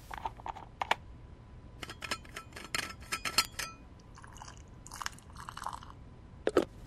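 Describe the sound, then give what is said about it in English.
A thermos of eggnog is unscrewed with a run of crisp clicks and scrapes, followed by a short stretch of eggnog pouring into a cup and a final clink. No one speaks. “I actually have a thermos of eggnog here. Just a second.”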